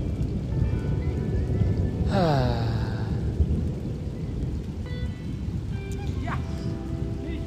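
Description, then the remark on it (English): Steady, dense rain patters on foliage with a low rumble of thunder beneath it, and a brief descending whistle-like tone cuts through about two seconds in. “Listen to the rain and the pond on the leaves, the thunder.”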